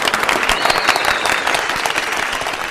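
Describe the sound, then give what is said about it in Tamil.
Sustained applause from a show audience and clapping team for two speakers at the end of a show, dense overlapping claps at a steady, fairly loud level with no voices standing out. “எங்க பார்த்த கிளாப் பண்ற டீம் கைத்தட்டுற பாய்ஸ் கைத்தட்டுங்க.”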